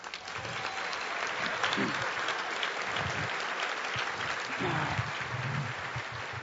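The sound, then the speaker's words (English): An audience breaks into a steady round of applause for the ASL interpreter, dense clapping filling the whole clip at an even loudness, with a few faint voices murmuring underneath. “I mean, let's round of applause.”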